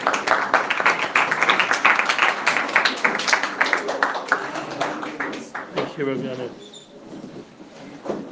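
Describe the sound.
An audience rises and bursts into steady, dense applause to welcome a rabbi as speaker, many hands clapping at once for several seconds before it thins out and a voice begins speaking.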